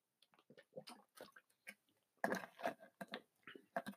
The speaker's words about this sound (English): I'm just going to have a sip of water here. Getting that cotton mouth.